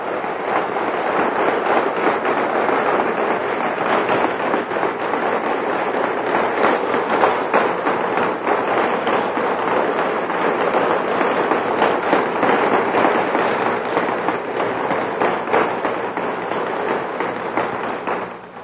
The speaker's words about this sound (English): I appreciate your gracious applause here today